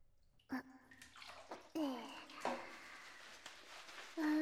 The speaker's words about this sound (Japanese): よいしょ。シャンプー借りるね。お手手で泡立てて。じゃあ行きまーす。